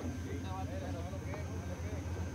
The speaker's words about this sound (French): Le train arrive lentement.